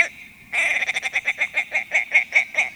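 A male tundra bird with white wings and a chunky, rusty body gives a fast, chuckling call in flight over the tundra and the tops of willows: a loud run of about a dozen rhythmic pulses that starts abruptly after a brief pause and carries on steadily with no talking.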